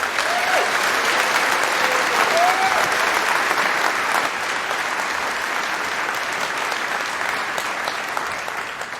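A large audience claps steadily for several seconds, a dense, sustained wash of applause with a few faint whoops early on, easing slightly toward the end.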